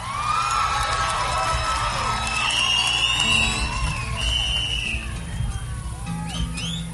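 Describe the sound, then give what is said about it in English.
An audience at a live concert cheers and claps loudly after a song while several sharp, rising and sliding whistles pierce through the dense roar of voices, with whoops scattered throughout. “Does the whistle mean you liked it or you didn't like it?”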